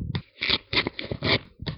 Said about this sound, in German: Du machst mein Papier kaputt.